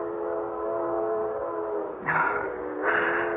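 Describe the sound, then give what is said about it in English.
A train whistle sounds loud in a long, steady harmonic wail, then swells into two brighter, harsher blasts near the end, with no talking. “Oh, that train whistle that's been driving me bats all morning.”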